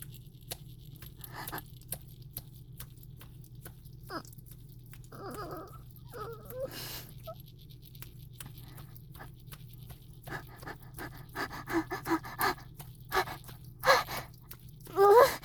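A puppy whimpers and pants, with short breathy gasps and faint squeaks over a low steady hum, growing louder and more rapid toward the end.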